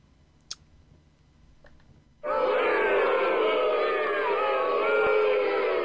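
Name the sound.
booing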